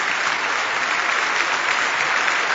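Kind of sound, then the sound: crowd, applause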